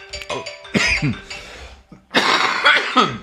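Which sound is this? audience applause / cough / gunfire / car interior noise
cough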